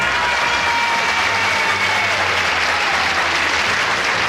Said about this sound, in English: When the applause comes on, I can't hear it.